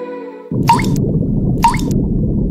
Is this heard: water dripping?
yes